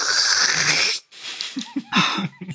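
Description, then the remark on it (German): A voice imitates loud soup slurping: a long, hissy airy suck for about a second, a short pause, then a run of quick wet slurps and gulps with another breathy suck. “Und was ich voll feiert, ist die Suppenschlürf-Szene in der Episode, wenn der Mando gegen die Cara Dune kämpft und sie dann so übereinander sie ruhen und dann die Knarren ins Gesicht töten und dann hörst du gerade so.”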